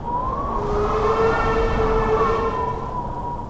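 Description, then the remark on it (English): A locomotive train whistle blows in one long, sustained blast, its steady tone sliding slightly up and then down, loud over a low rumbling background; the locomotive is going east, coming from the Des Moines River toward Honey Creek. “That was not the wind. That was a train.”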